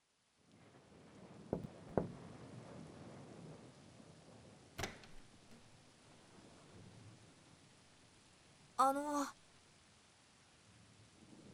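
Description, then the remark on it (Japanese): Heavy rain hisses steadily throughout, with a few sharp cracks and thuds breaking through and a brief creaking, squealing sound near the end. No one speaks. “雨すごいから、お兄さんの部屋、雨漏りしてねえかなって。”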